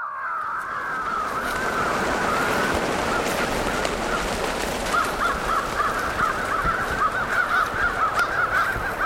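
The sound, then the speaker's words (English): A tape recording of a crow distress call is broadcast to a roosting flock: harsh, raucous crow cawing fills the scene, a dense overlapping clamor of many birds, loud and continuous, with a rapid pulsing run of caws toward the end over a noisy background. “A tape recording of a crow distress call broadcasts the news that this is no place to spend the night.”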